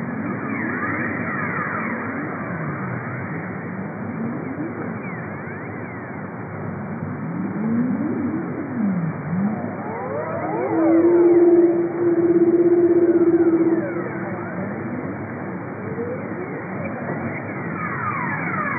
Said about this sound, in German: Hast du eine Aufnahme, wie das klingt in der leisen Unterwasserwelt der Antarktis? Ja, da haben wir eine sehr schöne Aufnahme, wo es leise ist und wo man gleichzeitig auch mehrere Robbenarten hören kann.